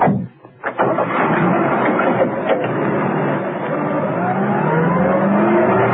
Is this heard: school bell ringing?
no